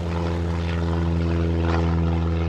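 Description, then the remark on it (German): A propeller airplane engine drones loudly and steadily as the plane is started and takes off from a flight school in Germany at sunrise, a continuous throbbing hum with a buzzing rasp layered on top and no voices. “Sie steigt ins Flugzeug, startet den Motor und hebt ab.”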